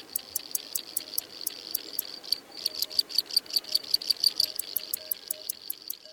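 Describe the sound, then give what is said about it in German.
A male field cricket chirps steadily to attract a mate in short, rhythmic pulses, clear, repeating throughout over a faint outdoor background with no voices. “Das Zirpen der Feldgrille ist reine Männersache.”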